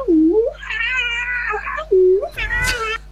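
A cat meows loudly, two drawn-out, strained cries in quick succession, each preceded by a short, low, rising sound.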